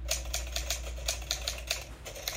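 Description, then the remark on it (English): An old typewriter sound effect: rapid clacking, a steady run of sharp key strikes about four or five per second, heard alone with a low hum underneath. “Oh, it's a sound effect of a typewriter I found.”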